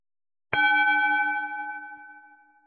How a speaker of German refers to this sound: Jetzt kommt der Gong.